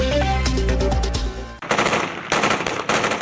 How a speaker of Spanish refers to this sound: El sonido de intensos tiroteos sacude la ciudad siria de Hasaka mientras fuerzas kurdas luchan con militantes del así llamado Estado Islámico.